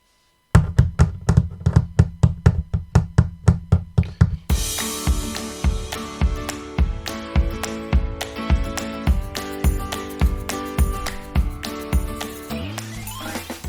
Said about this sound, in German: Doch dann hörte er ein lautes Klopfen über sich.